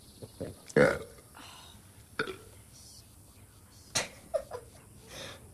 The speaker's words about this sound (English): belches.